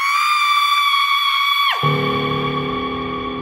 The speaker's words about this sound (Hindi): और रोहित की मां आखिरकार चीख पड़ी।